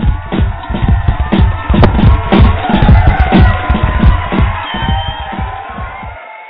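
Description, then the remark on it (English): The studio audience of the show Jackie's Vida Loca cheers and whoops loudly and steadily for several seconds, with rhythmic thumping pulses underneath, before cutting off abruptly near the end. “if you were still in the studio audience, I'd ask you to please cheer again for”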